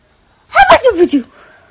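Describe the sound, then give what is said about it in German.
A single voice imitates a sneeze: a short, loud, syllabic vocal burst lasting under a second, its pitch sliding downward before trailing off into quiet. “Wie heißt das denn bei euch? Wie ich niese.”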